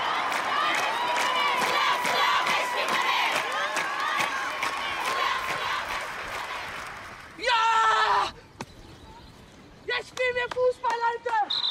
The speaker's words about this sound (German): Es war dort das erste Frauenspiel seit der Revolution 1979. Auf den Tribünen sangen 1000 Zuschauerinnen auch gegen die Unterdrückung von Frauen.